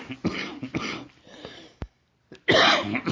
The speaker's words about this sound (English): I'm coughing.